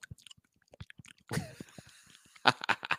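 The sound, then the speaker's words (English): Close-miked chewing and wet mouth clicks, a quick irregular series of smacks with a louder crunchy burst partway through, right up against the microphone with no talking. “The only thing that would have been worse than that is if you were just chewing into the microphone.”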